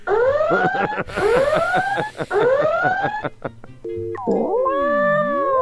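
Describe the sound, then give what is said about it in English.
A cat yowling and meowing sound effect: a series of loud, drawn-out, rising cries, repeated several times in quick succession, ending with wavering siren-like wails. “Oh, it's the exploding kitty.”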